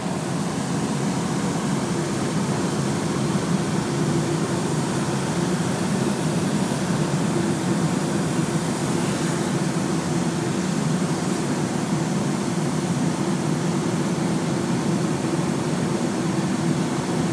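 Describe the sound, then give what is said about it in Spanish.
Hot air balloon burners fire to fill the balloon with hot air, in one long, loud, steady roar, a broad rushing blast with a deep rumbling undertone that holds without a break for the whole clip. No one speaks. “Y ahora simplemente a meter el aire caliente. Vamos a dejar oír los quemadores.”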